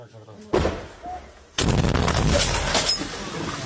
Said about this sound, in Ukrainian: Это кадры уличных боев в Бахмуте. Они пока что только на окраинах города. Центр и жилая часть под постоянными ударами российской артиллерии и авиации.